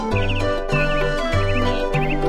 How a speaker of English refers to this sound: I have a bird.